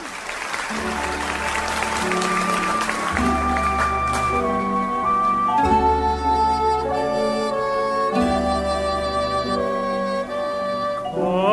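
Audience applause on a recording of a live performance, a dense patter of many hands, fills the opening seconds as an orchestral introduction begins, then the sustained music takes over with the clapping fading beneath it.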